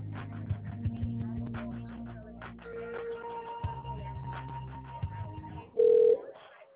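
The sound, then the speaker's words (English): A phone line ringing tone: a steady electronic tone hums over muffled, band-limited background sounds, then a short, louder beep cuts in near the end. “The line is ringing.”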